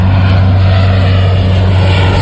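Seaplanes scooping water from Lake Sanabria in the morning: a loud, steady propeller-engine roar with a deep, constant low hum and broad rushing noise above it, unbroken for the whole couple of seconds, with no voices.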